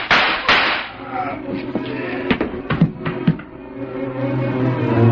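Several sharp gunshots crack out at irregular intervals, two early and a tight cluster in the middle, over a steady low rumbling background with faint murmuring.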